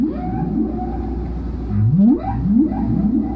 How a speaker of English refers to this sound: and then it would change again and do a third and a fourth and a fifth, up to 9 times in some songs. So it's an interesting, it takes a long time to hear a whale song.